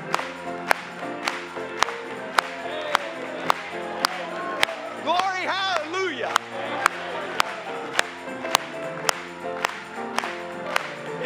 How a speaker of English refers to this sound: Let's clap it one more time to him.